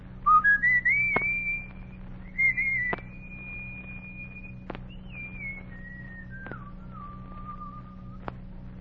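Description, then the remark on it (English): A boy on Logan Street in Washington, D.C., whistles a short tune alone on a hot summer evening to call his gang together: a quick rising phrase, then long held notes that slide down in steps, with a few sharp clicks and a low steady hum underneath. “He was a boy on Logan Street in Washington, D.C., looking for a way to play the tune he was whistling.”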